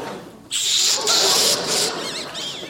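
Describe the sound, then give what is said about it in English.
A voice imitates an atom bomb explosion: a sudden loud, breathy hissing roar that holds for about two seconds, breaking into wavering, whistly squeals as it trails off. “But fortunately, the atom bomb went off.”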